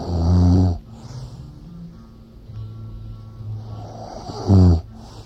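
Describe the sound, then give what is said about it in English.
Two loud, rumbling snores about four seconds apart, with a quieter stretch of low breathy noise between them, heard at the end of a song track; prominent, no talking. “There's a snoring part on after the end of one of song, all these songs.”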